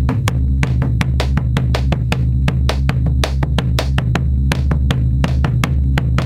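A bombo legüero drum played alone by a band's lead vocalist in a steady, lively rhythm: deep booming strokes on the skin mixed with sharp, dry clicks on the rim, several hits per second throughout.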